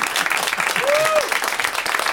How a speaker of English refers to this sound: Some of them tell their hands to clap when it's way too late.